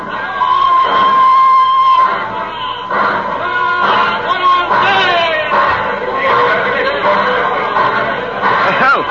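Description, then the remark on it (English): A cheerful crowd at a train station at Christmas fills the space with overlapping chatter and bursts of laughter, a dense, steady hubbub of many voices with no single speaker standing out. “A ruddy, happy crowd out there at the station.”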